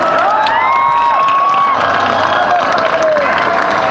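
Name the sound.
applause and cheering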